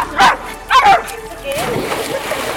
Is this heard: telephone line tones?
no